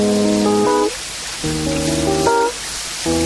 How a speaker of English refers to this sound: That's not interference, it's rain.